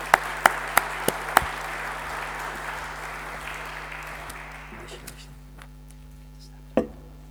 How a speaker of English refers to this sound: let's give her a round of applause to encourage her.